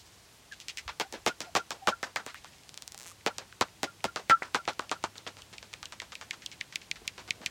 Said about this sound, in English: What you're hearing is the echolocation and social calls, recorded with a magenta bat detector and mixed with a pair of open Omni microphones. The bat calls from the Omni mics have also been brought down to human hearing range.